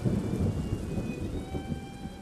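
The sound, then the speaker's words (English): Hard rain pours down steadily at night, a dense wash of noise with low rumbling beneath it, continuous throughout with no voices. “That night, it starts raining. It's the beginning of several days of hard rain.”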